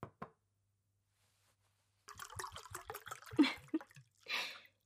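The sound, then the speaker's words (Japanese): Two quick clicks, a pause, then a run of rapid, gurgling glugs as sake is poured into a cup, ending with a brief soft splash-like hiss. No one speaks. “お酒でも飲みましょうか。お仕事お疲れ様の意味も込めて私に継がせてください。”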